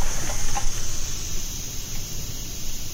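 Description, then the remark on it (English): A home radiator hisses steadily with a thin, high-pitched whine, while faint cricket-like chirps flicker over a low rumbling background. No one speaks. “This one sounds a bit more like crickets.”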